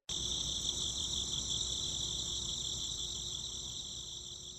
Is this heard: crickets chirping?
yes